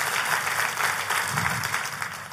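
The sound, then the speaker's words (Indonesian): An audience claps steadily at the preacher's invitation during a sermon, a dense wash of many hands with a faint rhythmic pulse, sustained and fairly loud throughout with no voices over it. “Oh, kalau mau tepuk tangan, come on, Soho Capital.”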